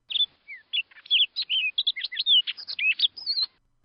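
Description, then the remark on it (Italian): A bird in the woods in the morning sings a quick, varied run of high whistled notes and short trills for a few seconds, answering another bird's call. It is clear, with no voices and nothing else around it. “Un altro rispose.”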